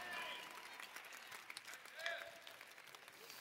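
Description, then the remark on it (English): An audience in Pittsburgh claps in a dense, steady wash of applause that holds evenly throughout, with a few scattered voices and faint cheers mixed into the crowd noise. “You better be clapping in Pittsburgh.”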